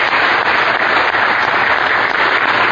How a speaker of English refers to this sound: Let's give these guys a hand, clap of praise anyway. We praise God for you.